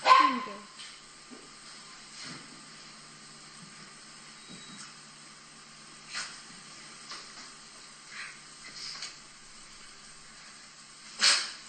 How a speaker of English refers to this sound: And he's walking in the door. And that's their dog, Dieter, that you can hear.